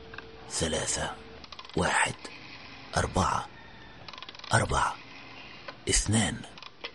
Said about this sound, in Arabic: مددت إصبعي إلى قرص الهاتف وضغطت على السماعة ما بين أذني وكتفي لأتمكن من تقليب دفتر الأرقام الصغير.